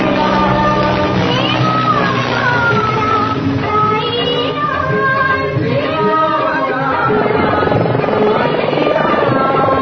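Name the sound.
helicopter flying overhead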